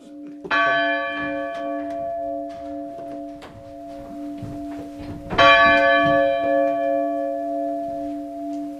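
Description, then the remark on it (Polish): Two loud, resonant church bell strikes, rung by pulling a rope, one near the start and another about five seconds later, each ringing out with long sustained harmonics that linger and decay slowly. “Tak, w każdym bądź razie za pomocą tego technologicznego sznurka możemy jak najbardziej usłyszeć te dzwony.”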